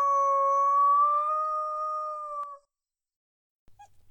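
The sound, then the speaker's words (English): A coyote vocal recording from VFA's library, used in its CSD (call, shoot, drag) coyote calling files: a coyote lets out one long, steady howl, holding an even mid-high pitch for a couple of seconds before cutting off. A pause follows, then a brief, faint yip-like sound. “VFA's CSD files, short for call, shoot, drag, 1 through 5, are made up of 100% coyote vocals from VFA's existing library.”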